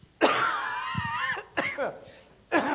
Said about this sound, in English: Not so rich and satisfying when I'm coughing.